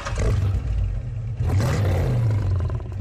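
A loud car engine rumble blended with a growling animal roar, the two layered into one sustained, snarling sound that swells and dips over a few seconds.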